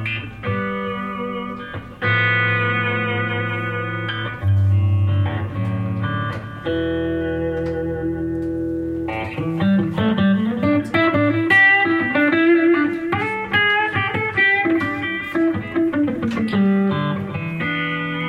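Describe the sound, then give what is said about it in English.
Clean electric guitar on a clean setting with flat EQ on the first channel and a little delay-reverb combination, miked from about a foot and a half away in a studio, plays sustained chords and then a run of single notes, each tone ringing out smoothly, steady and moderately loud with no talking. “So this is just like a clean setting. The EQ is set flat.”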